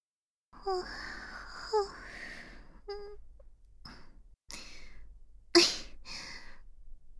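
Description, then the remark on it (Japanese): A long, drawn-out voiced yawn with a wavering pitch, followed by several soft breathy exhales and a sharper intake of breath. No speech is heard. “またあくび出ちゃった”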